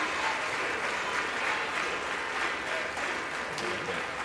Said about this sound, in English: I believe is introduced the new Speaker of the House, Mike Johnson of Louisiana. House representatives on their feet. It appears most Democrats and Republicans are on their feet, giving the new Speaker a round of applause.